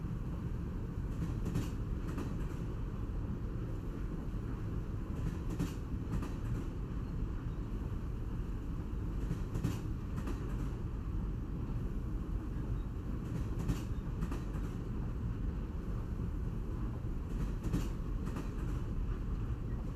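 Steady low rumble of the cruise train Royal Seven running, heard from inside a carriage, with faint rhythmic clacks of the wheels passing rail joints every couple of seconds. No one speaks.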